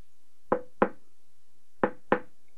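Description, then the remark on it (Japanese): Four sharp knocks, struck in two quick pairs with a pause between them, fairly loud against a quiet background; knocking on a bamboo stalk to see if someone is inside, like knocking on a toilet door. “ちゃんとノックばせんばね。”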